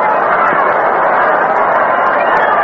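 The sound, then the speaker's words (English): A large baseball stadium crowd of probably over 40,000 at the Polo Grounds during a night game fills the air with a steady, dense wash of murmuring voices and chatter, loud and unbroken, with no single voice standing out. “Beautiful crowd tonight in the Polo Grounds. Big crowd, probably over 40,000.”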